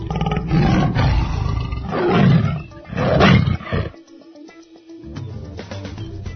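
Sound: lion roaring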